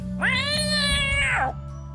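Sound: cat meowing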